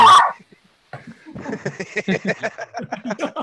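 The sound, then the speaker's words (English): A sharp burst, a short pause, then a female dog barking in a rapid, steady string of high-pitched yaps that keeps going without letting up. “Damn it! The dog doesn't like me.”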